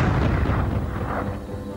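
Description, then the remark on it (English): A deep, thunderous boom like a gunshot echoes through the Alexian hospital at about 11 o'clock on the morning of Easter Tuesday, rolling out into a heavy, sustained rumble that stays loud throughout, with no voices over it. “About 11 o'clock, the Alexian hospital echoed with a thunderous noise, like a gunshot.”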